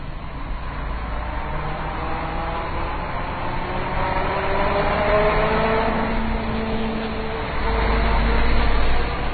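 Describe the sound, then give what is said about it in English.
A German-plated Mercedes truck roars past, recorded with the microphone in its tire well: a dense, steady rumble of engine and tire noise that swells louder near the end. No voices. “That was a German truck, Mercedes, but German plates.”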